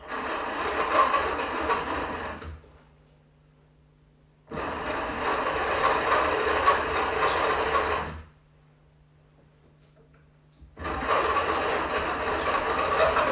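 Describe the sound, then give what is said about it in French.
An old telephone's crank is turned in three long bursts, each a loud, rattling whir lasting a few seconds, separated by quiet pauses with a low steady hum. “Voilà votre téléphone, vous tournez la manivelle.”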